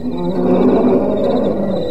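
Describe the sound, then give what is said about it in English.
A lion roars in one long, loud, deep rumbling growl that fills the whole moment, with no talking. “It's that roaring. It's been going on all night, you know.”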